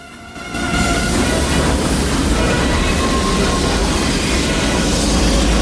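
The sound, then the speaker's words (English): A gargantuan armored train of armor-plated rail carriages, with a tank clamped inside one, lurches into motion at night after a brief quiet moment, its deep mechanical rumble swelling quickly into a loud, steady roar of grinding metal and faint screeching as it gathers speed, with no voices. “As a single gargantuan armored train, it begins to move forwards.”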